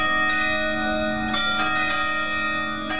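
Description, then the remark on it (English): Carillon bells chime from the belfry on the Eastern Tower of Oslo City Hall (Rådhus), Norway, in an uneven sequence of strikes. Their bright, overlapping tones ring and sustain over the steady low hum of the busy capital. No one speaks. “Draw closer and you may even hear the carillon bells, chiming above the hum of the busy capital from the belfry on the Eastern Tower.”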